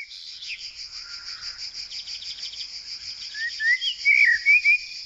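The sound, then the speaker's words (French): Cicadas chirping in a steady, high-pitched pulsing drone that fills the whole clip, with a few thin bird-like whistles rising over it near the end as it grows louder. “Le bruit des cigales.”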